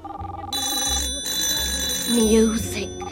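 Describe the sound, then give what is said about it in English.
A telephone rings as someone rings through to test the line, a bright, sustained electronic tone that starts after a brief pause and keeps going, fairly loud, with faint muffled voices and a low hum underneath. “I'll just ring through and test the line.”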